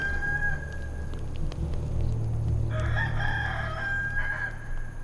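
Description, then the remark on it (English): A rooster lets out a long, drawn-out, loud crow over a steady low rumble of background noise. No one speaks. “Before the cock crows twice, you will deny me three times.”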